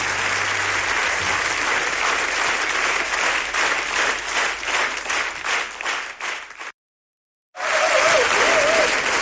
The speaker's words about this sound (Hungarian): Köszönjük, Taps!